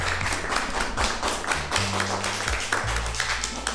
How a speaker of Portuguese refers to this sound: Queria que os meus colegas e eu dessemos um forte aplauso